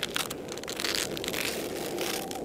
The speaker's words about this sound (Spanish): Al cabo de unos minutos, comencé a escuchar cómo rasguñaban mi puerta.